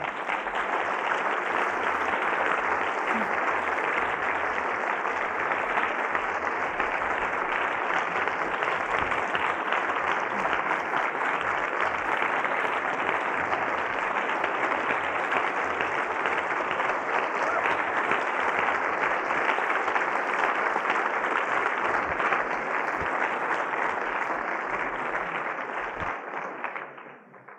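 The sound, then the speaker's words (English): Sustained, dense applause from a large audience fills the whole stretch at a steady loud level, a continuous wash of clapping that only fades away in the final moment. “With the quest group, people still stand because there's some more people to give applause to.”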